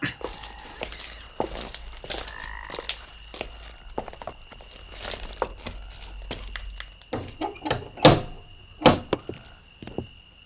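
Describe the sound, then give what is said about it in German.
Footsteps shuffle across the ground, then a few sharp, loud knocks land on the door of a house with no lights showing, with no one speaking. “Entweder ist niemand da oder die Fenster sind alle verhängt. Naja, ich klopfe mal.”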